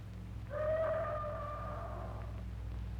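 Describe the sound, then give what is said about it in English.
A bull ape, miles away, lets out one long, drawn-out tonal roar lasting about two seconds at night. It sounds faint and far off over a steady low rumble of background noise. “That bull ape is certainly doing a lot of boasting tonight. He sounds very close, John.”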